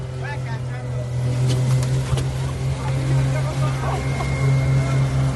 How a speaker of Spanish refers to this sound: Y tiene un coche anfibio que ya le hubiese gustado a James Bond tenerlo en sus películas. De su casa llega hasta el mar, recorre las costas, se acerca a los puertos y luego vuelta a casa sin bajarse.